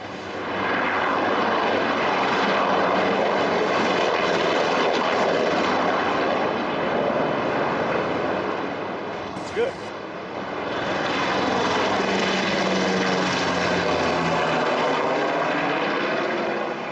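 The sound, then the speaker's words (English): American military helicopters roar overhead in a loud, continuous wash of engine and rotor noise that holds steady throughout, with a slight shifting pitch as they pass. “The problem with these American helicopters is that they drop small squares of incandescent metal as soon as they land.”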